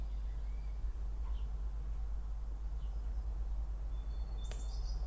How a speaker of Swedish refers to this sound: Jag hoppas att alla hör att det är lite fågelkvitter i bakgrunden. Det är väldigt fint.